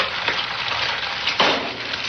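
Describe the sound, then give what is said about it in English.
Steady crackling sizzle of an egg frying in a hot pan in a 1980s anti-drug television ad, a dense hiss with small pops, swelling briefly louder near the end. Continuous, no voices. “The sound of a sizzling egg there.”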